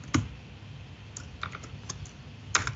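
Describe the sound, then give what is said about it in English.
Keys on a computer keyboard clack in an uneven, sparse rhythm of separate taps as someone types code, with a sharper strike near the start and another near the end. No one speaks. “There's that, those typing skills again.”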